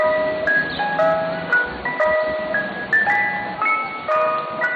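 A Mr. Softy ice cream truck's tinkly, music-box trademark jingle plays a steady, bouncing melody of bright repeated notes, loud, with no talking over it, as the truck threads through a neighborhood.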